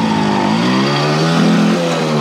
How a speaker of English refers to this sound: The engine made a loud noise. Then suddenly, the bike jumped forwards and out of the door.